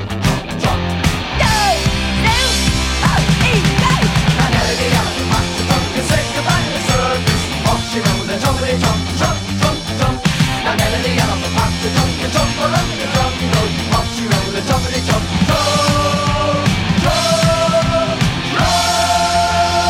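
A loud punk rock song plays steadily throughout, with driving drums, buzzing guitars and a shouted-sounding vocal line, dense and full from start to finish with no pauses.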